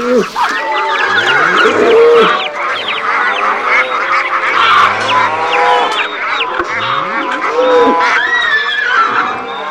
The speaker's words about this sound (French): Tous les animaux se mettent à hurler ensemble leurs revendications.